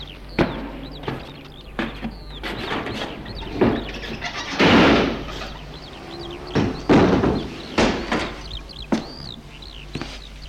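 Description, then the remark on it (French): A house gate is pushed open by someone entering, with a series of sharp metallic clanks and a brief scraping creak, while birds chirp faintly in the background. “voit les volets de la maison fermés, les voitures devant la maison, pousse le portail et entre.”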